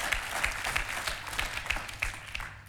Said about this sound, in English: Give the Lord a huge round of applause if you know what I'm talking about.